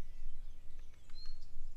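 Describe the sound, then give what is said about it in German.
A few short, high bird chirps and a thin whistle sound faintly in quick succession, set against a low, steady outdoor rumble with no one talking. “Vielleicht hörst du ja auch diese Vögelgeräusche, die ich hier habe.”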